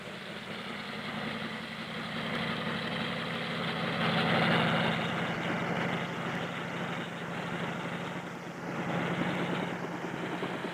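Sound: helicopter flying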